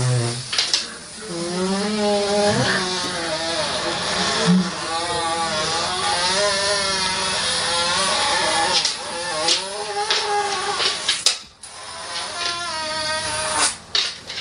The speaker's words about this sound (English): I think this is real, and it might be the longest dog fart ever.